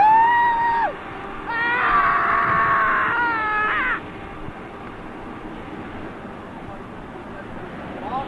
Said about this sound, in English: Oh, that's a trip when you put your head out the window and you start screaming.